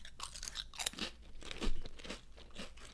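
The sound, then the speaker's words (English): Crisp, brittle crunching of a thin, bready chip, not a kettle chip, being bitten and chewed, a series of sharp crackly bursts with a louder crunch midway, no talking. “It's a thin chip, but it's a bready chip. Take a bite.”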